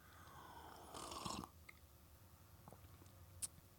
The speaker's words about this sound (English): Sip of coffee and we will begin.